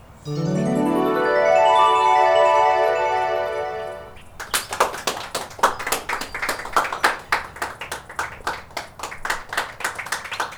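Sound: hands clapping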